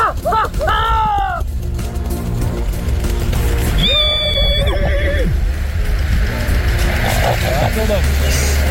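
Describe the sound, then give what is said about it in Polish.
An Arabian horse at Janów Podlaski, during preparations for the Pride of Poland Arabian horse auction, neighs twice, a quick shrill whinny at the start and a longer, wavering one a few seconds later, both loud over a steady low background rumble. “Za godzinę w faktach Pride of Poland, przygotowania do tegorocznej aukcji koni arabskich w Janowie Podlaskim.”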